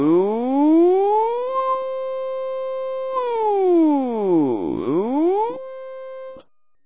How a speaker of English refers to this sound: "Good morning. It is 4:30. Here is your early morning alarm call." A huge blast made of warbles, barks, whistles, and sirens shakes the ship.